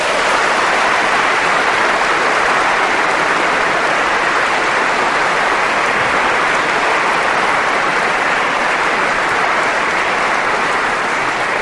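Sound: audience applause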